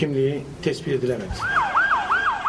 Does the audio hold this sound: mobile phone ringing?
no